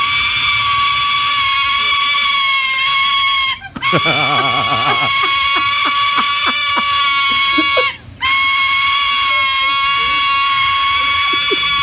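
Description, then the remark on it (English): A juvenile silver-crested cockatoo begs to be fed with a loud, continuous, harsh rasping screech full of high overtones, broken by two brief pauses and a stretch of rapid stuttering pulses partway through. “Yeah, and this juvenile silver-crested cockatoo is hungry, and this is the sound they make when they want to be fed.”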